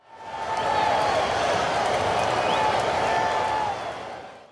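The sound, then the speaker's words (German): Spectators at a joust cheer on knights on horseback charging at each other with wooden lances, a dense wash of many voices with scattered clapping, steady and fairly loud throughout before fading at the end. “Und die Zuschauer feuern die Ritter dabei an.”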